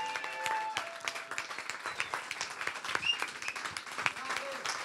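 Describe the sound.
An audience applauds steadily, a dense wash of many hands clapping at a fairly even loudness for several seconds, with a few brief tonal sounds and voices mixed in.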